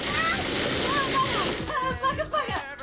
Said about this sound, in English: She shuts the lid of a food mixer and switches on the juicer.